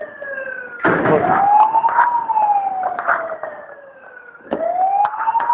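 A warning siren wails in long, slow rising and falling sweeps, loud and continuous, with sharp bursts of noise breaking in near the start and again toward the end.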